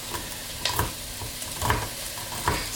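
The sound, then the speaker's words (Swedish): Onions sizzle steadily in a hot pan with paprika and chopped garlic, a continuous crackling hiss broken by a few scraping clatters as a woman stirs them and turns the heat down when they sizzle too much. No one speaks. “rör om och skruvar ner värmen lite när den börjar fräsa allt för mycket.”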